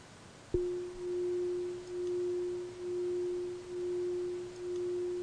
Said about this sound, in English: So let's make a start with the sound of the bell.